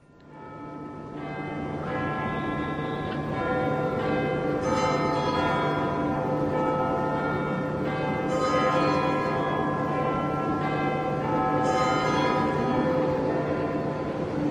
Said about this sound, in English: And so, in a sense, this is the sound right here of not only Big Ben chiming, but of all the people of London, in a sense, listening.